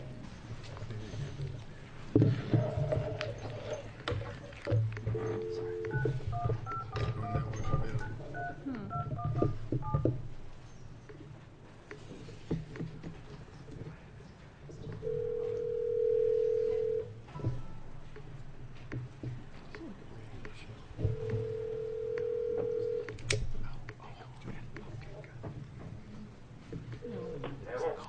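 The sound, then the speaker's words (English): A rapid run of short touch-tone beeps from a phone keypad, then two steady ringing tones over a speakerphone at a Judiciary Committee hearing, heard against a low murmur of room noise. “We have somebody on the phone.”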